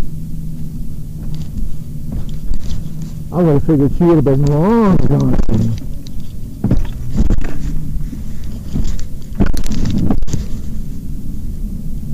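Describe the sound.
A steady low motor rumble and rushing wind buffeting the microphone as a scooter rides along a street on a cold day roughly in the 30s, continuing under a person talking throughout.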